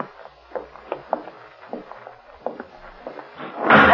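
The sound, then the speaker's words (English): Soft, scattered knocks and creaks shuffle along quietly, then a door slams shut with a loud, heavy bang near the end, as someone closes the door behind people entering a pitch-dark place; the door is fastened on the outside with an iron bar. “Someone closed the door behind us.”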